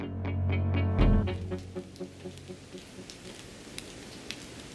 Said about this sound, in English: It's the first Sunday night of 2008. A cold rain is falling in Seattle.